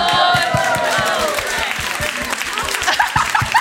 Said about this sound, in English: A room full of people applauding you. And thank you so much for applauding, but it genuinely did not feel as amazing.